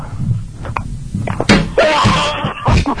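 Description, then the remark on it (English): Someone bangs on a window with several sharp, loud bangs on the hard surface in an uneven rhythm, with faint background voices and room noise between the hits. “Someone's banging on our window.”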